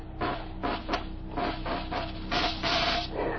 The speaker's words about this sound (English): Show us how this mechanical mouse catcher operates. You better get out of the way, Mr. Marin. If you've touched any of the mice in the lab, she'll go for you. She reacts to smell as well as sight and sound. All right, Tully, start it up.